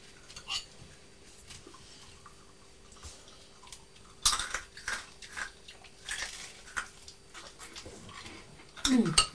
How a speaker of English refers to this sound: You're crunching hula hoops and I'm crunching toast. I bet we're making a lot of noise, don't you?